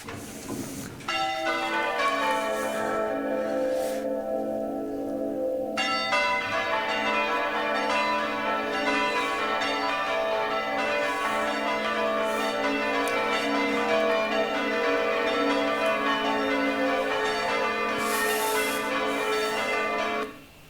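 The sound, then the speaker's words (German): Church bells rung by a team of ringers in a rapid, musical sequence, their overlapping tones ringing out loudly and continuously with a rich, shimmering resonance; no one speaks. “Glocken werden musikalisch angewendet, Orchesterbereich.”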